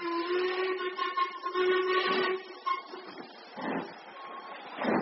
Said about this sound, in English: Listen. What is it? Victoria Station. Precisely what I foresaw.